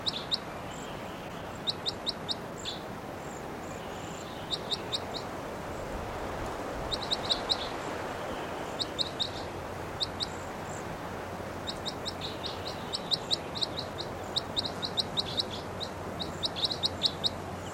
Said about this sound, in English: Oh, 698. Both birds were calling. 698, the loudest. Both birds are calling, pointing at 698.